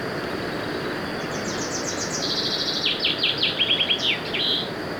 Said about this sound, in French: Il y a un oiseau.